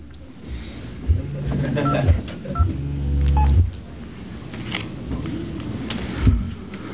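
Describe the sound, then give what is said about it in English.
Several telephone dialing tones beep in quick succession, each a short steady electronic note with small pauses between, followed by a longer tone and a soft clatter of handling noise. “You're getting a phone call.”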